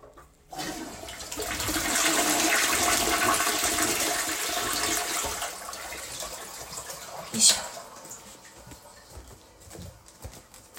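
household object, toilet flushing

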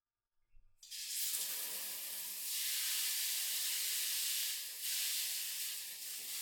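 household object, shower water running

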